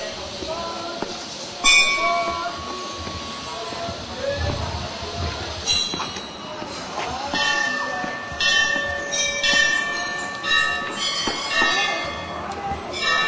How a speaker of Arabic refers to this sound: النساء أو الراهبات من النساء يلبسن الأحمر الفاتح ويقمن الآن بالطواف على المعبد كاملا، ويحملن المباخر فوق رؤوسهم بأعداد كبيرة تصل إلى أكثر من 20 امرأة. لم نستطع التصوير طبعا، ولعلكم تسمعون الآن أصوات الطواف حول المعبد من خلال هؤلاء الراهبات.